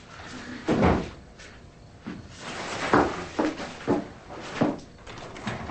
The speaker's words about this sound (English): then pushes a table back into place before answering the door.